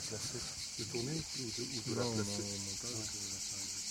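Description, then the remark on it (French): A dense, continuous chorus of cicadas buzzes steadily throughout, fairly loud and unbroken, on a hillside among olive trees and fields at a house in the Drôme, France, while a person talks over it in the foreground. “On est allé le retrouver dans sa maison dans la Drôme, à flanc de colline, au milieu des oliviers et des champs de cigales”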